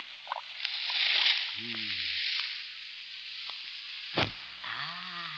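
A steady sizzling hiss of white powder dropped into a kettle of boiling water, swelling and fading, with low gurgling tones underneath and one sharp crackling burst near the end.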